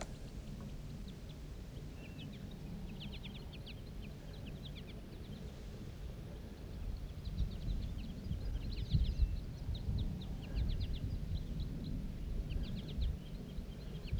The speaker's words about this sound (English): The flock took off. There's still one bird sitting up in the tree.